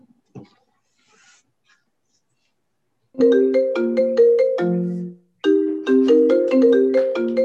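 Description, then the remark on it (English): Someone's phone ringtone plays a bright, melodic sequence of electronic tones, loud, repeating in two bursts after a brief quiet moment with a faint rustle. “Somebody's phone.”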